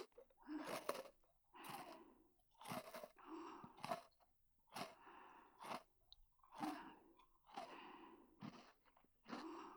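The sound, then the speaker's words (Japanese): Close, crisp crunching of the last thin snack being bitten and chewed beside the ears, from an angle on the right side, in roughly ten brittle bursts spaced about a second apart, with no talking. “じゃあ最後の一枚は両耳のそばで、右は斜めから食べていこう。”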